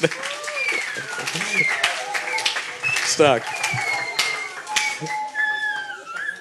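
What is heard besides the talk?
audience applause and clapping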